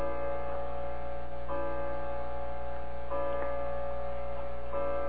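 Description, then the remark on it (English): A grandfather clock ticks steadily, its even beats set over a low, constant electrical hum, with no one speaking. “does that sound interfere with our voice? No, I don't think so. When Grandfather's chiming, okay.”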